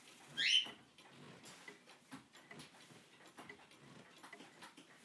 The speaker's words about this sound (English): She's worked out that she can climb around a cage without falling off.